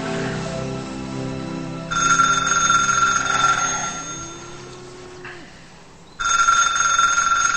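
A telephone rings loudly in a bedroom with a bright electronic trill, sounding twice with a pause between rings, over faint low background tones and no talking.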